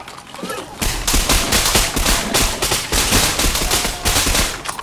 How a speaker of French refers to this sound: Toute la barricade fit feu.